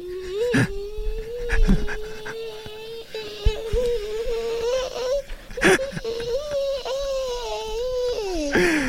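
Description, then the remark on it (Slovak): On the Európa 2 morning radio show, a voice imitates a mosquito with a steady, nasal, high-pitched whine that drones on for about nine seconds, wavering slightly in pitch and broken by a few quick breaths or clicks. “je to skrytý talent, vie napodobniť zvuk komára a je rovnako inak otravný a intenzívny ako komár.”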